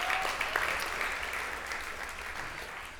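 An audience breaks into steady applause for the worship team that led the service, a dense wash of many hands clapping at an even, sustained level for a few seconds, with no voices over it.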